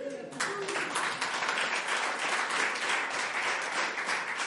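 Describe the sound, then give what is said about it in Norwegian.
Audience applause as thanks for editing and posting material on Facebook breaks out after a brief voice and continues steadily for about four seconds, a dense, crackling wash of many hands clapping at an even loudness. “Ja, faktisk skal du få en applaus for det.”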